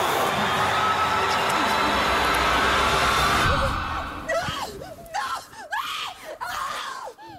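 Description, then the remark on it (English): Steady rushing noise fills the first few seconds, then a person's wavering, high-pitched crying breaks through in several uneven, sobbing bursts with short gaps between them, heard on a camping trip at Willow Creek. “That sounds like someone's crying.”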